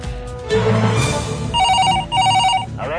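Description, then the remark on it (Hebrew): A telephone rings on a radio program to signal a newly received message: two bursts of bright, warbling electronic tones over a low background hum, loud, followed by a faint rising chime. “התקבלה הודעה חדשה.”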